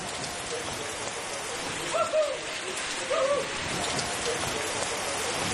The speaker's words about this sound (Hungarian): Jó az eső.